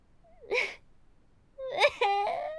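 A girl crying in short bursts: a breathy whimper, a pause, then a tremulous, high-pitched wailing sob that wavers and breaks, moderately loud with no talking.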